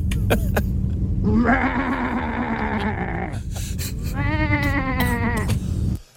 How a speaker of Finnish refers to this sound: Miten sielläkin oli 2 erilaista lammasta? Mikä toi eka on? Ei toi ole lammas. Mikä toi? Ihan loistava. Toi joku hevosen ja lampaan sairas lapsi.